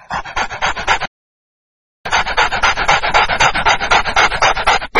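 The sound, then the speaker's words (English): A dog runs after a man: fast, steady rasping bursts of panting and scrabbling, loud, stopping for about a second of silence before starting up again. “After that, the dog runs after him.”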